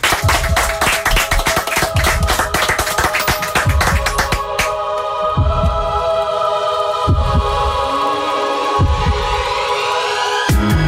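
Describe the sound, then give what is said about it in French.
Audience applause during a live morning broadcast on the radio station Chérie FM, a dense crackle of many hands clapping, fills the first few seconds before fading as music begins, with sustained tones and a slow, steady low thump. “Applaudissements.”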